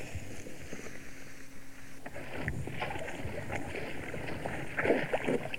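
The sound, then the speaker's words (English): Heavy sloshing and splashing of water as elephants move along and wade down into a river, with irregular surges of churning water against a steady outdoor background and no voices. “The other elephants you can hear moving up. We're moving along now. We're now going down into the river.”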